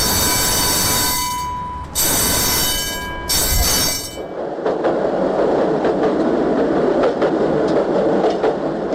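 A tram's wheels squeal loudly on the rails in sharp, high-pitched bursts, then give way to a steady rumbling roll along the track.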